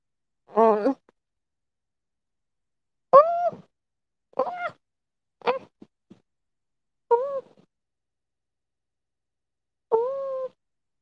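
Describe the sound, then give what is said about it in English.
A female cat named Chunky Wonky, struggling while being held and wrestled with, lets out six drawn-out, complaining meows at irregular intervals, with quiet pauses between them and no talking. “My cat left me.”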